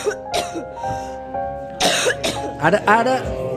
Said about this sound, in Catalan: Ara li ha agafat una tos malxinada que no la deixa viure en pau.